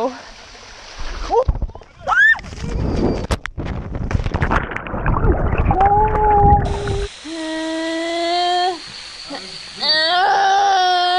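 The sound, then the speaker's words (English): A woman falling down a 50-foot waterfall, recorded on a GoPro she wore, lets out long, rising screams and wails, then sustained shrill cries, with a burst of rushing, splashing water noise in the middle as she lands in about 2 feet of water; loud throughout. “It's just sort of an illustration of what it's like to fall down a 50-foot waterfall.”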